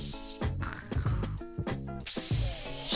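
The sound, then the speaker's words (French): A person mimics snoring: a few rough, rattling snorts followed by a long, airy exhale. The sound is fairly loud and there is no talking. “Ensuite, c'était le ronflement”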